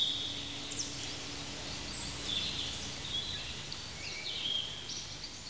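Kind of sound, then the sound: bird, birds singing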